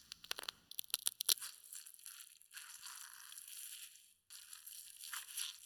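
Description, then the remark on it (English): A spider feeding with its fangs on prey caught in its web: a quick run of sharp clicks and crackles, then longer spells of dry, gritty crunching and tearing that stop briefly and start again. No one speaks. “Leashing its fangs, it gets down to the business of feasting.”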